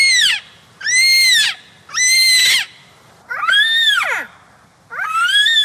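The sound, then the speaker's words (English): A voice imitates a yellow-tailed black cockatoo, giving five loud, drawn-out wailing calls in a steady rhythm, each rising and then sliding down in pitch, with short gaps between them. “Well, I would think the yellow-tailed black cockatoo must be terribly hard. They all perfected it.”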